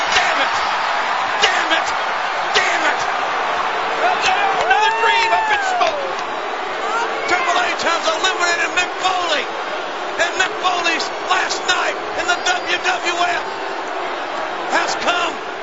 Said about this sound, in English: Hunter just murdered this guy with a chair shot